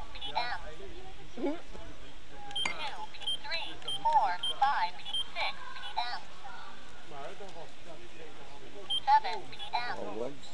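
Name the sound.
beeping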